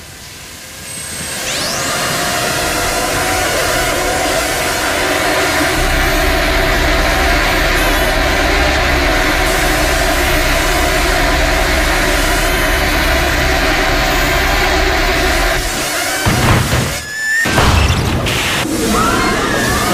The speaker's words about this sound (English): Let's go back and hear one more clip from the film, and this is where the dissident students in Scotland, in Edinburgh, Scotland, are attacked by these drones.